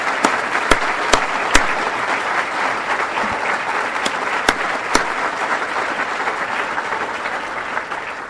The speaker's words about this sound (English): Join me in a round of applause for this great governor.